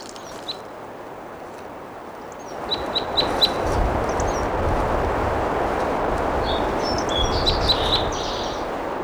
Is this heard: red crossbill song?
yes